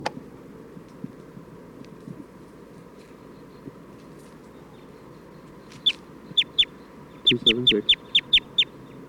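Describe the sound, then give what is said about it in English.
A bird calls in a field recording, a rapid run of sharp, high-pitched chirps, about ten in a row, beginning partway through after a stretch of faint, steady background murmur. “For recording, I'm still trying to get bird 277.”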